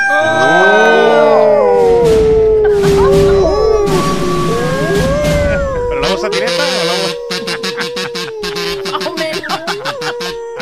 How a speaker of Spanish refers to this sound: Está en modo primaveral, mira ahí. Está llamando aquí a... No vea la que está dando el lobo en celo, el lobo...